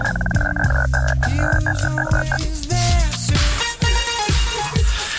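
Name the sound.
imitated frog croaking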